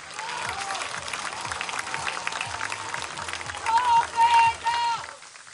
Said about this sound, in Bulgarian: Много аплодисменти, скъпи приятели, много аплодисменти за вашия кандидат, успешния кандидат, професор Михаил Мирчев.